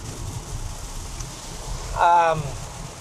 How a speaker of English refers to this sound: I didn't think I was gonna get any rain for this drive for you guys, but just showing its confidence.